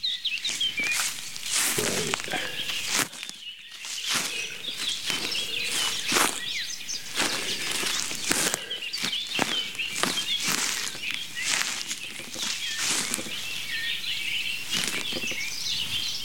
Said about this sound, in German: Und ich mache jetzt mal Schritte. Moment. Ihr könnt mitzählen. Das war der erste.